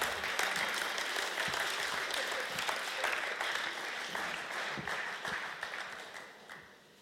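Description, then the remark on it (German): A crowd applauds steadily, a dense wash of many hands clapping at an even level for several seconds before fading out toward the end, as a man is welcomed onto the stage. No one speaks over it. “gebt mir einen herzlichen Applaus.”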